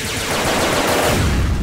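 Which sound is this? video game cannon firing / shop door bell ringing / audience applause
video game cannon firing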